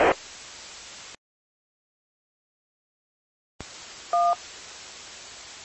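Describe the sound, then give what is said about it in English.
A hissing burst of radio static cuts off into silence, then the static returns as the radio keys up and a short, bright two-tone roger beep sounds over the hiss. No one speaks. “Be advised, you got almost like a Roger beep or something before you start talking. As soon as you key up, it's beeping.”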